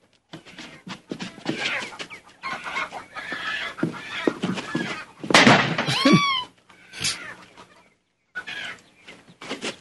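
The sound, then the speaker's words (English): Chickens cluck and squawk in agitated, overlapping bursts as a chicken hawk is about to get one of them, rising to a loud frantic cry midway before short pauses and a few more clucks near the end. Nobody speaks. “There's a chicken hawk about to get one of your chickens.”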